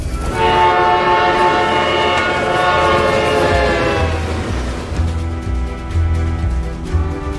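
A loud train horn blares with rich harmonic tones for several seconds while a train rumbles by on the tracks, its heavy low rolling noise continuing after the horn fades.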